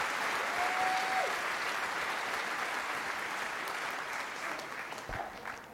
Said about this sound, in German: Und da gibt es nochmal einen großen Applaus aus dem Saal.